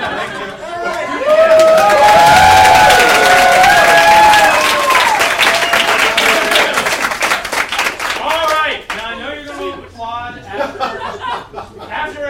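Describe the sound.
An audience applauds loudly, with dense clapping and some cheering voices, then the applause fades around nine seconds as a single voice starts talking.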